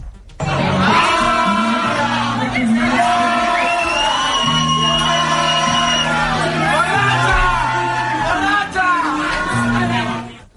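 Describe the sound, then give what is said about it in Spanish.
A rowdy group of friends shout and whoop jokingly at the mayor in a drinks bar in the Gràcia neighbourhood, loud, their overlapping drunken yells over a steady low musical hum in the background. “Hay vídeos de la alcaldesa muy animada en un local de copas del barrio de Gracia, en compañía de varios amigos que le dirigen entre bromas gritos de borracha.”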